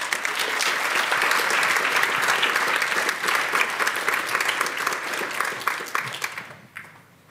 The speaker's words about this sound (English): Would you give a nice round of applause?